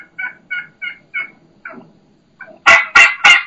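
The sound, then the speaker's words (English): A dominant turkey hen gives a run of low, slow yelps, five steady notes, then a pause and a few louder, harsher yelps to finish. No one speaks. “And then you can hear that low and slow, ow, ow, ow. That's a hen saying, no, I'm the dominant one.”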